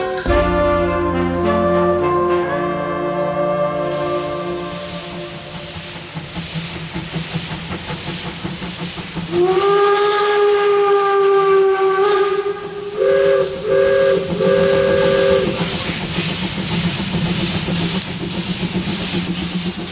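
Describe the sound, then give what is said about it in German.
A steam locomotive whistle blows in long, sustained tones, sliding and then sounding in a few short repeated blasts, over a steady loud hiss of escaping steam, on a train trip in Breslau. No one speaks. “Unser Zug war nicht weg, wir waren weg mit dem Zug.”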